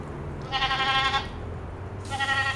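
A goat bleats twice, loud: a long wavering cry, a short pause, then a second bleat that is cut off, over a low, steady barn background hum. It is the prize goat Rebel being given a bath in a livestock barn at the 2013 Washington County Fair, on an afternoon around 100 degrees.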